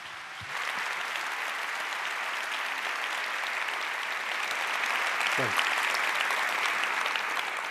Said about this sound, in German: Ja, bitte einen warmen, ganz herzlichen Applaus für Peter Schaar.